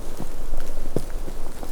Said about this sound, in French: le bruit de fond du vent et ses gouttelettes.